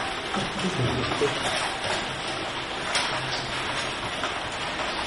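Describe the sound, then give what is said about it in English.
Steady rain falls throughout, a dense, even hiss of drops pattering on a surface, with faint murmuring voices underneath. “It's raining.”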